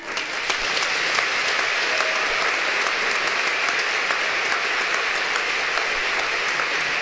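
Sustained audience applause, a dense, steady wash of many hands clapping at an even, fairly loud level for the whole stretch, with no voices breaking through.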